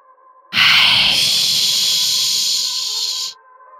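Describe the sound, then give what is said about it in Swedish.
A loud, shrill hiss from inside a well bursts in suddenly and holds steady for about three seconds before cutting off, bright and airy over a faint low hum. “Ett högt och sylvast väsande hördes ur brunnen.”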